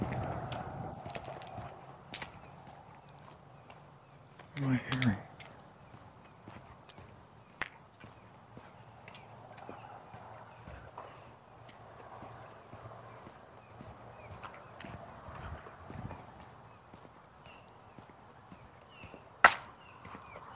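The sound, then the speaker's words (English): Faint footsteps echo irregularly outdoors around the neighborhood, a few sharper knocking steps standing out against a low, steady background hum with no one talking. “Footsteps.”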